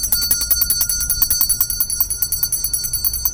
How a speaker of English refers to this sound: is ringing that bell for the Salvation Army out in front of Weaver's.